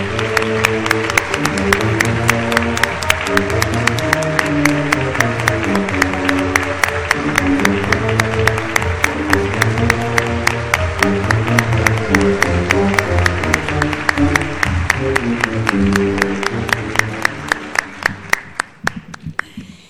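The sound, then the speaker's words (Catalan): An audience applauds loudly and steadily for nearly twenty seconds for Rai Martínez's photo titled 'Mare i filla'. The dense clapping runs over low background music, then thins into a few last claps and fades out. “Un fort aplaudiment per a Rai.”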